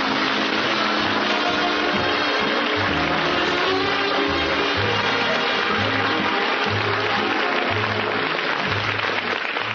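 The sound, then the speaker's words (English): An audience applauds steadily and loudly to welcome Phil Harris, a dense wash of many hands clapping that holds at an even level throughout, with a faint rhythmic low pulse underneath and no one speaking. “I can't tell you how much it means to me to have you come out here after all these years all by myself, and you're all applauding and got those smiles on your faces and glad to see me.”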